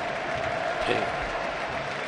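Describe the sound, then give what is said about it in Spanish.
A large stadium crowd of fans applauds and cheers Leo Messi as he is presented his sixth Ballon d'Or, in a dense, continuous roar that holds steady throughout, with a brief swell near the middle and no distinct voices standing out. “Escuchad la afición cómo se rinde al argentino.”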